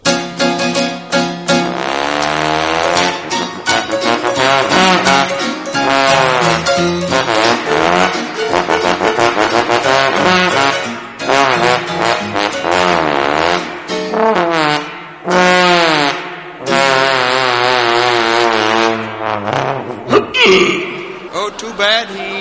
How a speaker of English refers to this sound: Now to conclude our show this evening, I know you've all seen and enjoyed our performing seals from time to time, but we have now being prodded out onto our stage one of the world's few trombone-playing whales, the great Blubber Lips.